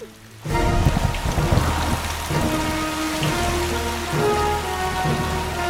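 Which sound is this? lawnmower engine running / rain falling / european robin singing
rain falling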